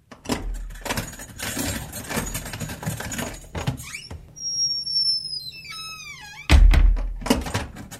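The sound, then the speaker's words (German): A heavy bunch of keys jangles inside a prison, then a heavy metal prison door creaks open with a long, high-pitched squeal before slamming shut with a loud, booming clank of the sturdy lock. Reverberant. “Dicke Schlüsselbund, schwere Tür, robustes Schloss. So klingt ein Gefängnis von innen.”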